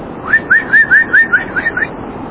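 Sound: imitated whistling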